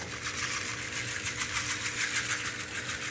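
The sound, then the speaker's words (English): Nut seed cases from Africa rattle in a steady, rapid rhythm, making a soft, hissy patter much like falling rain that continues evenly throughout, with no voices. “It's a, these are seed cases. Oh, that sounds so soft. Just like rain.”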